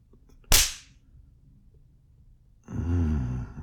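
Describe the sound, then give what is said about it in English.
A single sharp, loud slap of a hand spanking buttocks cracks out and fades quickly, followed after a quiet pause of about two seconds by a low, breathy voiced sigh or whimper. “Your ass looks even better with a bit of red from my hand.”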